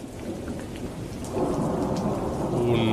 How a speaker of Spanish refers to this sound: Era noche cerrada en Madrid y llovía.